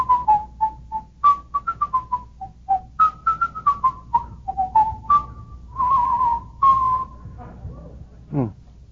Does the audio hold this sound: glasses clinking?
no